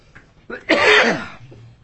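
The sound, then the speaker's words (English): A single harsh, forceful cough bursts out loud, preceded by a short intake of breath, then trails off into quiet. “I have to cough again, I think.”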